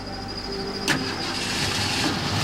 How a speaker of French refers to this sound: La voiture de la victime démarra sans problème.